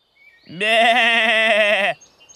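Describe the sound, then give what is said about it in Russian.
A goat lets out one loud, drawn-out bleat lasting over a second, its nasal tone wavering with a quavering tremble before cutting off abruptly, with no talking around it. “Вот бежит козел по полю, побежал вдоль по дорожке, а ему волк навстречу.”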